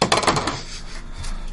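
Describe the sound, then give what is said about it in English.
A burst of dice clattering and rattling together in a bucket, loud for about half a second, then settling into faint scattered clicks and handling noise. “I need some dice, y'all. There's a whole bucket of them. Bucket of dice.”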